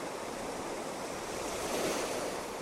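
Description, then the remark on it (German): Steady roar of surf as waves break at night and wash up the shore and back into the sea, a broad hiss of churning water that swells slightly louder toward the end, with no voices. “Hier, wo aus dem tiefen Dunkel des Meeres in der Nacht diese weißen Wellenkämme auftauchen, wenn sich die Wellen brechen und dann ans Ufer auslaufen und zurück ins Meer streben.”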